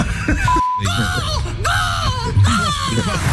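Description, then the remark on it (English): Seagulls give a run of loud, harsh, wavering cries, one after another in quick succession, over a steady rushing wash of waves underneath. “I'm never happier than in my spiritual home with the sound of the gulls and the waves.”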